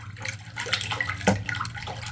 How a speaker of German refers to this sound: Hörst du das? Ja, es plätschert so ein bisschen.